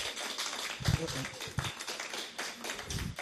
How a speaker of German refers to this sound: Schön, dass ihr ihm einen Applaus gibt. Das gilt ja nicht mir, aber es ist wirklich so.